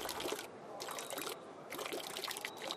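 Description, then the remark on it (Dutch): A man urinates into a canal: a steady stream of liquid splashes into open water, rising and falling in short surges for a few seconds with no voices. “Ze heeft aan niks een grotere hekel dan aan mannen die plassen in de gracht.”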